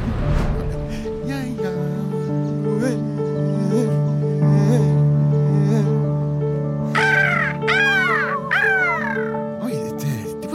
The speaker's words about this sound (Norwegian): Fine fugler. Hei, hei fugler. Sju fugler, sju.